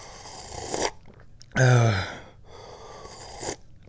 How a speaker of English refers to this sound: I'm holding my teacup up to my face and I'm trying to gauge whether or not this tea is too hot. But I guess the only real way to tell is to take a sip.